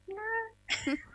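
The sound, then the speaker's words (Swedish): A person imitates a cat, giving one drawn-out rising meow followed by a shorter, breathier second mew, fairly loud with no other talk. “Alltså, det låter ju verkligen genuint när du gör det i kattspråket.”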